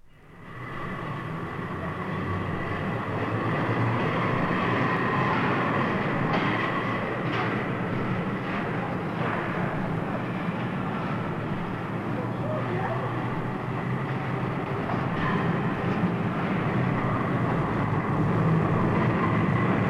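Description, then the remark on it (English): A southbound tram car passes through the Aldwych Station tram subway in central London near midnight, a loud, steady, sustained roar with metallic rattling and occasional clicks of wheels over rail joints, echoing throughout. “At Aldwych Station, one of two in the subway, it was nearly midnight when one of the last southbound cars passed through.”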